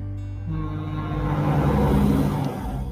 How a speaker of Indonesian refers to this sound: Maaf ya, ada suara ini mobil lewat karena memang di samping jalan.